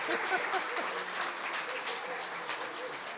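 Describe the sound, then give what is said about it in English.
An audience applauds steadily for about three seconds, a dense, even patter of many hands clapping at constant loudness, with a few voices murmuring faintly underneath. “Well, ladies and gentlemen, let's give a big round of applause to Mike Marlin.”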